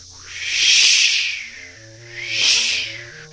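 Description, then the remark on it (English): Cicada mating calls, with pharaoh cicadas among them, swell and fade in two loud, synchronized waves of high, hissing buzz, with a steady low droning tone running faintly underneath. “And we also heard a few of those pharaoh cicadas in the background.”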